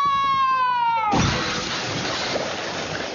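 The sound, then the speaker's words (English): A falling, whistle-like tone slides down for about a second, then cuts into a loud crash of shattering glass as a boat's cracked glass bottom breaks on landing, trailing off into a long, noisy scatter of debris. “I'm a little bit worried about the glass bottom.”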